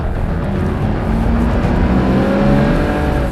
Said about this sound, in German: Salim drückt aufs Gas.